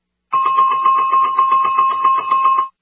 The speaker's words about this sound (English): And if this issue comes up again, will you give me the buzzer? I hope so.